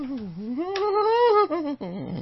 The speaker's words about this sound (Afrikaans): Dit is die singende saag, die langspeler het nou uitgekom vir Kersfees,